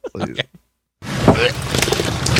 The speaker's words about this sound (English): It looked like mostly salt water to me. I couldn't tell. That sounds like real vomit.